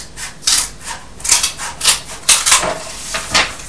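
Paper is laid down and rubbed flat with repeated brushing, scraping strokes while making a flash card, fairly loud, in an uneven rhythm of about a dozen swipes with no talking.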